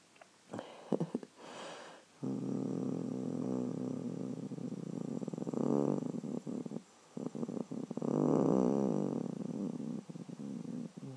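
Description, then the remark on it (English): A human voice, croaky, imitates a cat's purr with a low, rumbling, throaty vibration held in long stretches with brief breaks, fairly loud, after a few short sniffing sounds at the start. “And I'll purr for you. Yeah. Actually, it does sound like a proper purr, doesn't it?”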